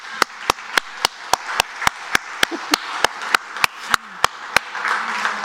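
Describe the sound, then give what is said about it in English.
A group claps together in steady unison, around eighteen sharp, evenly spaced claps at a brisk tempo, set against a continuous murmuring wash of crowd noise. The people are standing and clapping in praise of God. “And let's clap for Him.”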